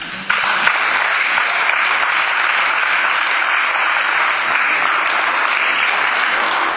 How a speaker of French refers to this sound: Voilà, merci Monsieur Sommaruga, vos applaudissements disent notre gratitude. On pourrait continuer à vous applaudir longtemps